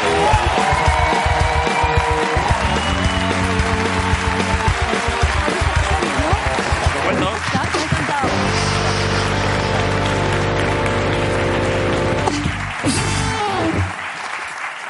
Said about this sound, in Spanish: Pido un aplauso para César Sarachu y Cecilia Freire hoy en La Resistencia.